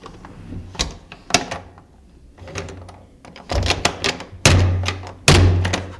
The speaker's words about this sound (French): Et si cette porte se refermait définitivement sur eux?